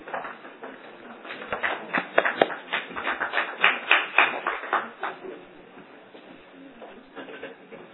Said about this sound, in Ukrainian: Я думаю, що це якраз оплески були тільки завдяки тому, що мій попередній колега трохи похвалив АПК.